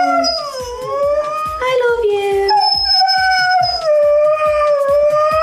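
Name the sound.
dog howling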